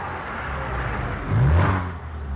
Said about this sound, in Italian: Arriva una macchina, la fermo io.